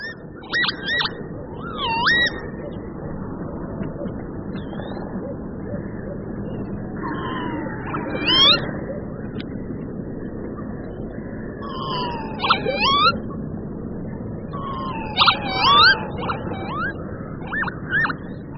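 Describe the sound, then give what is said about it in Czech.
Northern lapwing calls, wheezy slurred 'pee-wit' cries in short clusters every few seconds, clear over a steady low rumble of wind or background noise. “Čejka chochlatá.”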